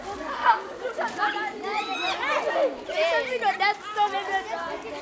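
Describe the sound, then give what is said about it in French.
A crowd of schoolchildren queuing in line at school snack time chatters continuously, many high-pitched young voices overlapping in a lively, steady babble with no single voice standing out. “Voilà, là c'est l'heure de la collation. Donc tous les élèves font la file.”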